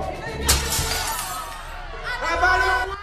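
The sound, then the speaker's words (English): Window glass of a workshop shatters in one sharp, loud crash early on, followed by a brief scatter of tinkling shards, with muffled voices of a crowd outside rising in the background. “cautiously inches towards a smashed window in the workshop.”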